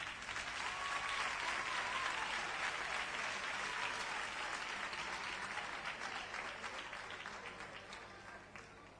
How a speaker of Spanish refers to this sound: Un fuerte aplauso.